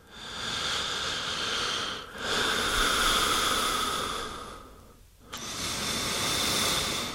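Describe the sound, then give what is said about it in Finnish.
Slow, deep, relaxed breaths during a breathing exercise, using the chest and diaphragm and preferably through the nose, drawn in and let out in long, airy waves, about three in a row with short pauses between, steady with no talking. “Ensin muistellaan, kuinka rintakehämme, palleamme osallistuvat hengittämään syvään ja rentoutuneesti.”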